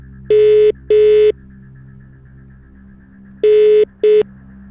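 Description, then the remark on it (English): Four loud electronic telephone tones, like a phone line dialing out, come in two pairs separated by a pause, with a low steady hum underneath and no one talking. “The minute he answers the phone, you'll get it.”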